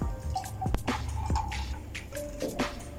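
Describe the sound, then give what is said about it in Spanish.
Apple soda being poured into a glass with ice, Chivas whisky and mineral water, with repeated drips and splashes over a low, steady rush of liquid. No one speaks. “Refresco de manzana.”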